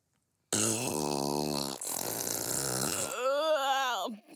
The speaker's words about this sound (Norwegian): Pust din næse, og så skal du høre en rigtig god en.